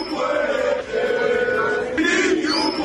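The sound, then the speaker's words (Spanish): A large football stadium crowd chants insults in unison at Real Madrid player Vinicius, many voices holding sustained, drawn-out tones that rise to a higher, brighter pitch about two-thirds of the way through. “¿Qué ha hecho el Madrid ante estos gritos, ante estos salvajes, Melchor Ruiz?”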